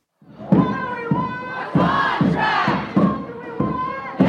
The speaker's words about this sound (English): It's been kind of rainy and dreary in New York City lately, but on Wednesday, the sun was out as crowds of people rallied outside of News Corp's corporate offices in support of the HarperCollins union workers.